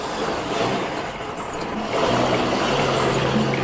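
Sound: car driving fast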